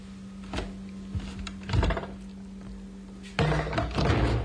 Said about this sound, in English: Now, I'm going to breach my own code of ethics. I'm not going to knock on the door. I'm just going to open it and surprise them.